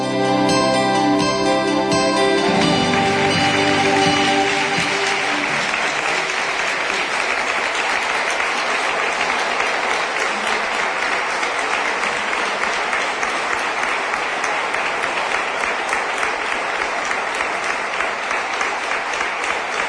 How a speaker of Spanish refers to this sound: Sí que se merece esos aplausos, sin duda.